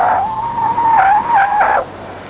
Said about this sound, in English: I gave a basic Belmont an absolute thrashing on our special braking skid pad. Just listen to a full panic stop from 50 miles an hour.